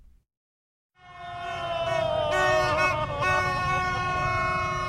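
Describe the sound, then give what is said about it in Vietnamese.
Loud, sustained blaring of horns starts after a second of near silence, several overlapping brassy tones wavering together over a dense rumble of street and crowd noise as fans with flags and horns celebrate U23 Vietnam's SEA Games 31 victory on streets around My Dinh National Stadium in Hanoi. “Trên khắp các tuyến đường xung quanh khu vực sân vận động Quốc gia Mỹ Đình đêm qua đã chật cứng người hâm mộ mang theo cờ, kèn xuống đường để ăn mừng chiến thắng đội tuyển U23 Việt Nam.”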